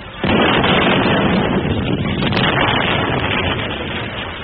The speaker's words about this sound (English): They sent a request, all right, written on a torpedo.